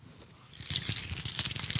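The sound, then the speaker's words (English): A bunch of keys jingles with a run of bright metallic clinks and rattles, starting quietly and growing busier as they are lifted and handled, with no voices. “Rats, I left my keys down there.”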